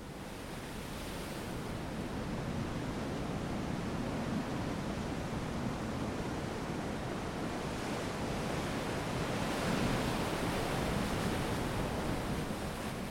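Steady roar of ocean surf with no voices, broad hissing wash that swells gently a few times as waves roll in and break, fairly loud and continuous throughout.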